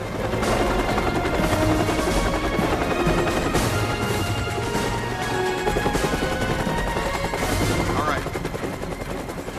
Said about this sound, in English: A blue helicopter swoops into land alongside a bunch of police patrol cars.